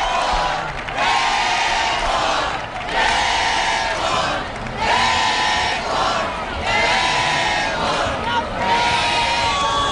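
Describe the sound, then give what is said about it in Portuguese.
A loud crowd of a couple of hundred Deportivo (Depor) football fans at María Pita chants "Depor, Depor" in steady, repeating bursts every couple of seconds, with cheering and applause for the women players filling the gaps throughout. “Sí que hai un par de centenares de persoas, así que están recibindo aplausos agora as xogadoras. Cantan Depor Depor os xareiros.”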